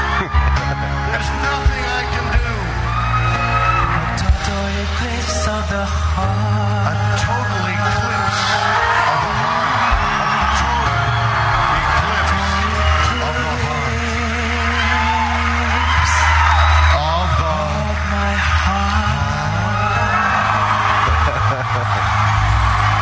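A crowd of fans screams and shrieks nonstop, high wavering cries piling over a steady low musical drone, loud and dense for the whole stretch.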